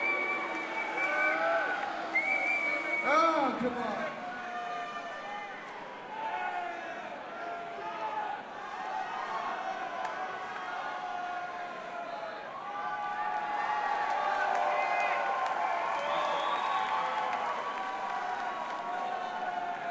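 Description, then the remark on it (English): A large crowd cheers, whoops and claps continuously for contestants, a Tin Man and a Not So Cowardly Lion, in a contest, a dense wash of voices and applause that stays loud throughout and swells slightly toward the end. “Now I'm gonna put my hand above each person's head, and you're gonna cheer for who you want to win the contest.”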